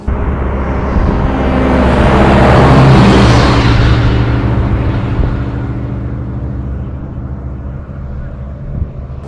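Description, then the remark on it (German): A vintage road-version passenger car engine runs with a steady, droning rumble that swells louder over the first few seconds, then gradually eases off while continuing to run; the engine gives off strong heat at the front. “Das ist ein richtiger Personenwagen, der auch richtig gelaufen ist.”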